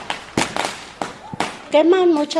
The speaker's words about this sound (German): Die Leute gehen auf die Straße und zünden Feuerwerkskörper.